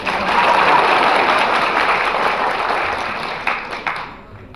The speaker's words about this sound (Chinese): 鼓掌